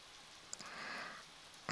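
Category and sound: nature, quiet rain falling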